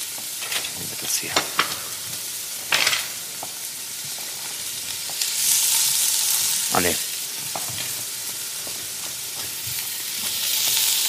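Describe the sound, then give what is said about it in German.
Meat sizzles steadily as it is seared in a hot frying pan, a continuous crackling hiss with sharp pops and a few clattering stirs, swelling louder about halfway through. “Oh, ich liebe es, wenn es brutzelt.”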